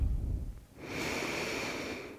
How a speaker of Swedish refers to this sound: Ta ett djupare andetag in.